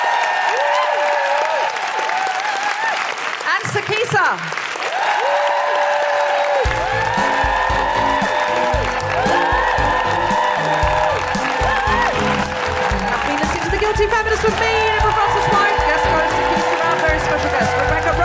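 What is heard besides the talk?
audience applause and cheering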